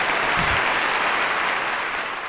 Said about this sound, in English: Apparently she hates applause. I don't like the sound.